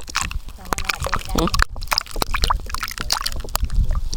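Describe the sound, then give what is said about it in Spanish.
Chicha is poured and sloshes into a cup for a toast at Canaima, with small clinks and splashes in an irregular rhythm, while voices murmur in the background. “acaba de llegar la chicha. Acaba de llegar la mona. ¿Pero vamos a tener ya chicha?”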